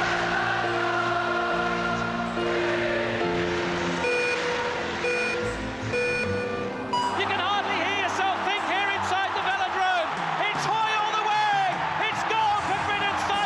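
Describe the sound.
A large stadium crowd sings together in a loud, sustained chorus, many voices blending into a wavering melody that swells and grows denser in the second half, with steady held tones beneath.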